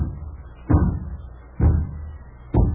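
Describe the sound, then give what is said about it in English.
Three heavy, evenly spaced knocks on a door by the mailman bringing the mail, each a low, booming thud with a short ringing decay, loud with no voices. “who's at the door?”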